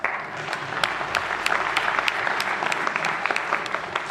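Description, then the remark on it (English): Steady applause from a crowd for the performers of a retelling of the empty grave story fills the whole stretch, a dense wash of many hands clapping with sharp individual claps popping out irregularly, holding a fairly even loudness throughout. “Give them a clap.”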